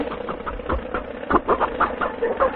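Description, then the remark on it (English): A car engine knocks and shakes in an uneven run of heavy, rattling thumps, several pulses each second, steady and fairly loud with no voices over it. “She never shook like this before. No car ever shook like this before.”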